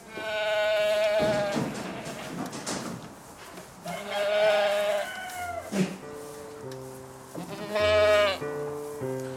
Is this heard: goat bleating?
yes